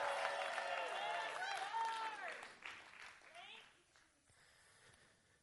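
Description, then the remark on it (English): An audience in Alaska, giving the Lord a hand of praise, claps and shouts together in a loud burst of applause with overlapping cheering voices, which gradually dies down over a few seconds. “Let out a shout. Clap your hands.”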